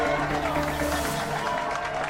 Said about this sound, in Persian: لطفا مهمون مخصوص ما ستاره موسیقی … رو تشویق کنید.